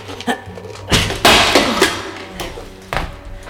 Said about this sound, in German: bist du bescheuert, auf die Kamera einzutreten? Das Ding hätte man doch noch gebrauchen können.